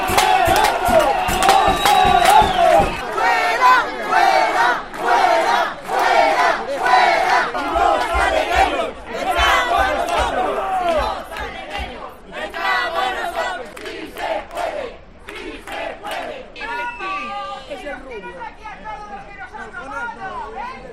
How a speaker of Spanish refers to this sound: Fuera sonaron sin descanso las sartenes, las ollas y sobre todo las gargantas.